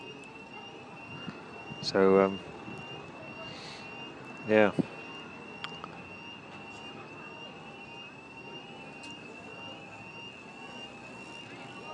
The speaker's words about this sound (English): this really is a strange afternoon. There's a fire car.